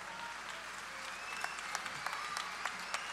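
An audience breaks into steady applause, a dense wash of clapping hands with a few sharper, louder claps standing out over the continuous patter.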